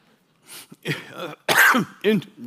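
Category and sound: human body sound, throat clearing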